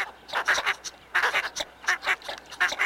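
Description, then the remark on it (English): Northern shoveler ducks calling in a steady series of short, nasal, clustered notes that rise and fall in repeated bursts, fairly close and clear, with no talking. “Northern shovelers are social birds that often forage together in large flocks.”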